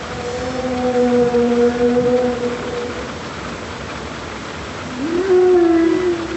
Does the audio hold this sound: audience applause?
no